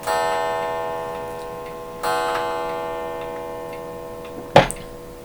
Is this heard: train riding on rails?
no